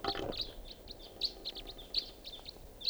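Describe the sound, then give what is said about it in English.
A flock of about five crossbills calling as they fly over and circle around, a steady scatter of short, sharp chip notes overlapping over a quiet outdoor background, no voices. “Sounds like a flock of crossbills flying over here.”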